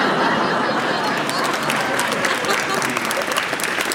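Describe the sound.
Steady audience applause in Los Angeles, cheering that a massive warehouse fire had been extinguished, fills the whole four seconds, a dense, loud wash of many hands clapping at once with a faint murmur of crowd voices underneath.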